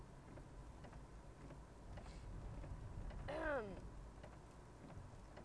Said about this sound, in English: It sounds like sleet. Can we just drive kind of slow?